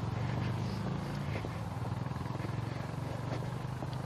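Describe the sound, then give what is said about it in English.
A motorcycle engine rumbles past on a gorgeous fall day with a deep, throbbing low drone that stays loud and steady for about four seconds, its rapid pulsing beat running throughout with no voices. “Must be motorcycle day.”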